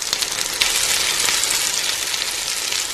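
A frying-pan sound effect: a steady, crackling sizzle of food frying in a hot pan, loud, with a dense hiss and scattered pops running continuously throughout and no voices.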